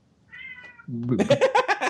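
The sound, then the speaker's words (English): A cat named Fry meows: first a thin, faint high cry, then a louder, drawn-out meow that wavers in pitch. “You guys heard that? That's right, Cat.”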